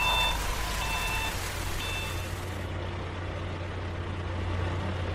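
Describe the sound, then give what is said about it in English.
Three high, steady reversing beeps sound at an even pace over the deep, constant rumble of a concrete mixer truck's engine as it pours orange concrete mix over sand on a new road section. The engine keeps droning on alone after the beeping stops. “Concrete mixer pours orange concrete mix over the sand.”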